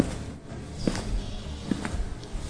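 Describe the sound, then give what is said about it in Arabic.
A few slow, evenly spaced footsteps as Al-Mu'tazz takes several steps without saying anything, against a low, steady background hum, with no one speaking. “خطى المعتز عدة خطوات ولم يقل شيئا.”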